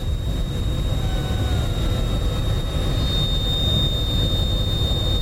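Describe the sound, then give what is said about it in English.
The two outer tail feathers of an Anna's hummingbird vibrating in a rushing airflow give off a thin, steady high-pitched whine over a loud, constant roar of wind, with the tone growing slightly stronger midway. No one speaks. “When I rotate the larger feather away, the sound gets quieter.”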